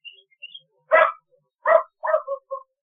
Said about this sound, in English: Hey, what's all that barking about? Come on now, I got my show going here, guys. So the dogs have been let out.